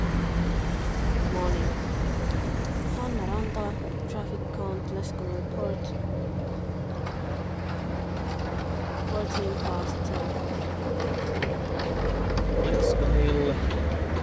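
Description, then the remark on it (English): Steady low rumble of traffic moving around Lescanil Port on 2 May 2000, recorded for a traffic count, engines droning continuously at moderate loudness, with scattered clanks and brief sharper noises over the top. “So traffic count in Lescanil, 2nd day of May, year 2000,”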